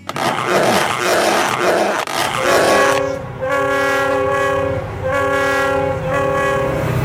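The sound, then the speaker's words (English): A train sound effect called the Pants Off Express: a train rumbles along with rhythmic clatter, then a loud, sustained multi-tone horn blares twice in long blasts over the rolling noise. “could you just go ahead and play the Pants Off Express? Because this is, as they say, a train wreck.”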